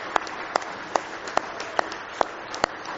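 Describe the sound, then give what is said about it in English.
A crowd at an evening worship service claps hands together in praise of God, a dense wash of applause punctuated by sharp, evenly spaced unison claps roughly every half second, sustained and moderately loud throughout. “Let's give Him one more big hand clap of praise tonight.”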